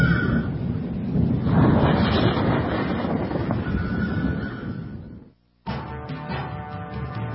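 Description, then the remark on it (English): A loud, steady roar of storm wind with a deep low rumble. It cuts out abruptly for a moment, then the rushing noise returns with faint tonal hums mixed in. “I think a storm's coming.”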